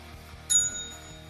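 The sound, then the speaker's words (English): A single bright bell ring strikes suddenly and leaves a shimmering metallic tone that fades over the next second, clear, with no voices. “Get your bells ready.”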